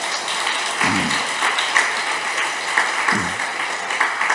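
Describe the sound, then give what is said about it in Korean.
A crowd claps steadily at a speaker's request, a dense, even patter of many hands filling the whole stretch without speech, broken twice by brief low thuds. “박수 한번 치고.”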